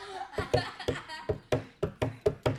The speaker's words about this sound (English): she went running upstairs, and it sounded like this. She had large feet, so it was kind of awkward when she ran.